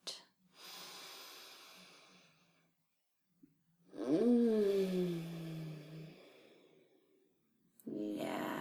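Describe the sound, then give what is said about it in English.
Slow, deep breathing: a long airy inhale, a pause, then a drawn-out exhale with a soft voiced sigh, and another breath starting at the end. “And as I keep talking to you, keep breathing in like this and breathing out.”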